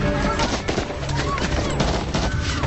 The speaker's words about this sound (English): As men, women, and children flee, gunshots take down a couple of passengers.